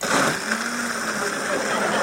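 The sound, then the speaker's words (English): A blender runs steadily at a bar, its loud motor whirring with a constant, harsh grinding hum and no pauses. “How many people would rather listen to the blender?”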